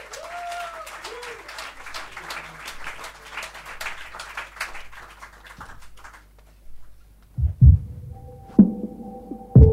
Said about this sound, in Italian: Un applauso